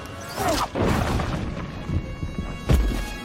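A couple of loud, sharp gunshots crack out a few seconds apart, each a sudden blast over a dense, rumbling background of noise, with no voices.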